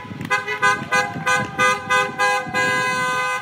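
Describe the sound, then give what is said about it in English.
Many car horns from a caravan of about 1,800 cars on a loop route through San Francisco blare together in a loud, rhythmic series of overlapping honks that swell into one long sustained blast, over a low rumble of passing traffic. “She watched for 2 hours and could still hear the honking when she went inside.”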